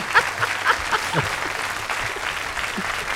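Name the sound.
audience applause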